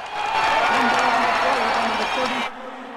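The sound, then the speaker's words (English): A loud, dense stadium crowd roars and cheers at a Super Bowl football game, a steady wash of many voices that dims and cuts off abruptly near the end, leaving near silence. “As the crowd noise dims, Cabot hears his phone.”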